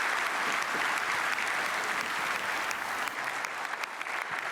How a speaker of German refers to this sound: Applaus aus dem Saal.